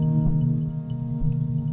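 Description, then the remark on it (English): A steady electronic synthesizer tone with long modulation drones with rich, buzzy harmonics, its pitch and texture wavering slowly. It plays alone, fairly loud, with no talking. “Do sort of long modulation.”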